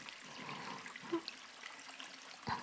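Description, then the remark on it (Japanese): Continuous wet rubbing as skin is scrubbed with shower oil, a soft slick friction noise with a couple of brief squeaky accents near the middle and end; no one speaks. “ゴシゴシ鳴ってます。意外な音しますよね。”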